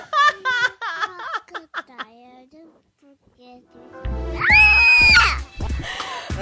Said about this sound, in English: Don't forget to scream. Ah! Oh, my God. I just lost my hearing. I didn't expect him to do that.